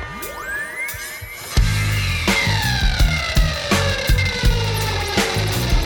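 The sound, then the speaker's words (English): Wailing emergency sirens sweep up and down in pitch, loud, and after a second or so a heavy, steady rhythmic thumping joins underneath them. No one speaks. “Run the sirens.”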